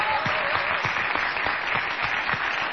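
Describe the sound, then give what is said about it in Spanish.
An audience at the Multiteatro on Corrientes 1283 applauding, an ovation for Patricio Barton, in a steady, dense wash of clapping that holds at an even, fairly loud level for a few seconds, with no voices over it. “Y aprovechando esta ovación que uno podría suponer sin destinatario principal, vamos a pedir un aplauso para Patricio Barton.”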